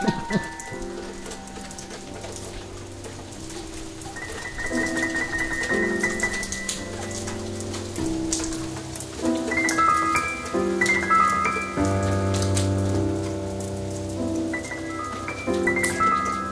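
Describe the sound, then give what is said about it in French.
Rain arrives and patters steadily on hard surfaces outdoors at a house, a dense continuous hiss of drops, while sustained melodic tones drift over it. No one speaks. “Vous voyez, vous réclamiez, la pluie, elle arrive.”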